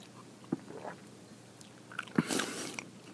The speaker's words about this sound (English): Okay, I did two good swallows as I was drinking to see if that changed a little bit. It takes the earthiness away as I'm drinking it, and definitely gives me more of a straight-up beer taste, which is a very strange description, because it's a beer.